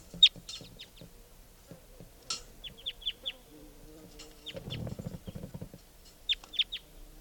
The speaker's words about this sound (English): I think there's a wild bird here.